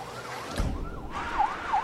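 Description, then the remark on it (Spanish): A police car siren wails in a rising and falling pattern, steady, with a brief low rumble of an engine or movement midway through, as a police car and a private car pull into a parking lot. “Un auto policial y otro particular ingresan al estacionamiento.”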